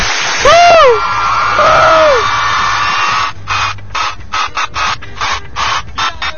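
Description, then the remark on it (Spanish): Audience cheering with loud, sliding whoops and whistles that rise and fall in pitch, then breaking into steady rhythmic clapping, beat after beat, that carries on to the end. “¡Aplauso!”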